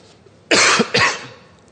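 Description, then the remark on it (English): Two sharp, forceful coughs in quick succession, fairly loud, with no talking around them and quiet room tone before and after. “Sometimes you're going to get a cough.”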